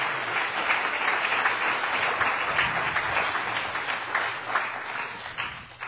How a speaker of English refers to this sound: Clap your hands if you love the Lord today.